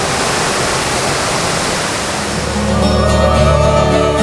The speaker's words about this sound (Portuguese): Estar no Parque Nacional, a Cachoeira de São Romão é protegida pelas leis ambientais.